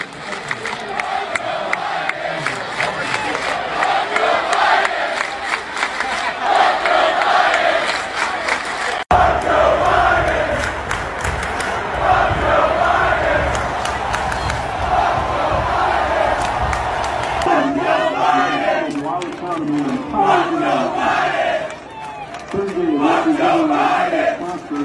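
A huge stadium crowd chants "Fuck Joe Biden" together in rhythmic unison, a dense, loud roar of many voices rising and falling in repeated phrases, continuous throughout with cheers and shouts mixed in.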